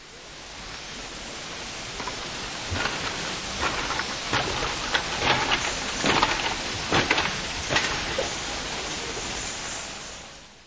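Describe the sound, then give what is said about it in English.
Footsteps cross a bamboo bridge in Queen Elizabeth Park, a series of sharp woody clacks and creaks falling in an uneven walking rhythm over a steady background hiss, growing louder midway before fading out. “For instance, there are some interesting walking surfaces, such as this bamboo bridge.”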